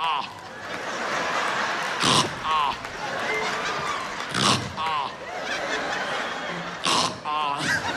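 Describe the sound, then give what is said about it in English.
A man imitates his own snoring with his voice, letting out loud, rough snorting bursts every two to three seconds, while an audience laughs and murmurs steadily underneath. “I press play, I'm on there snoring like this.”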